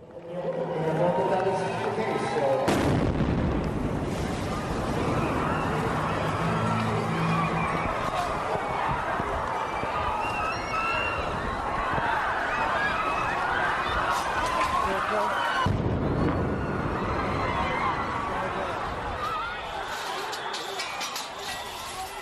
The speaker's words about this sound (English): At 2:50 p.m. today, there were simultaneous explosions. Just heard a big bang first.